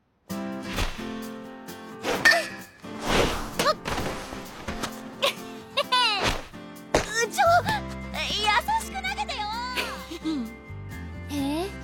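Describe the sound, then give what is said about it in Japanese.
A fungo bat cracks against balls during baseball fielding practice, a girl hitting the practice grounders several times at uneven intervals, sharp hollow whacks standing out over a steady bed of sustained tones, with bursts of voices toward the end. “あの子のノックのことよ。”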